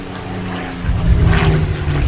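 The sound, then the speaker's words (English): A WWII Japanese fighter plane's piston engine drones with a low, steady hum that swells louder about halfway through as it approaches, heard alone without any voices. “And now, a World War II Japanese fighter plane.”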